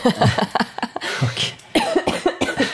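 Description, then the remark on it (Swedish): A harsh, worsening cough: a rapid series of raspy coughs with brief gasping pauses between them, fairly loud and continuing for a few seconds with no talking. “där har vi elefanten i rummet, …s hosta, som nu har tagit sig en starkare form”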